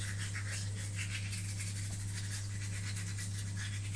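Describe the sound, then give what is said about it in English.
A toothbrush scrubs steadily at a child's teeth, a continuous rhythmic bristly scratching with no pauses, over a constant low electrical hum. “if you're doing that with your mouth, I'll end up the toothbrush will hurt either your lip or your gum, and you'll be crying saying, "Don't be naughty, it hurts."”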